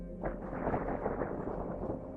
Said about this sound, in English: It was thunder.